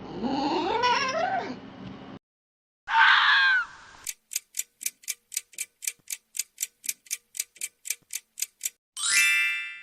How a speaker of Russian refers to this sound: Это тявкает лиса.